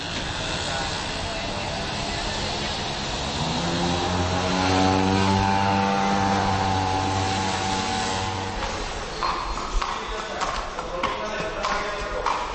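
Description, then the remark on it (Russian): A motor scooter's whiny engine buzzes past in a market square where trading is under way, swelling loud in the middle and fading away, followed by scattered clattering taps against a steady street background. “Голоса за завал нарушают лишь вездесущие мотороллеры.”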